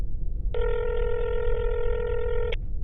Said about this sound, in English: I'm gonna call him. It's ringing.